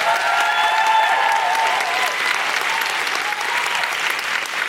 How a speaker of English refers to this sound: Could I have a big, big round of applause for Dr. Bob Gill?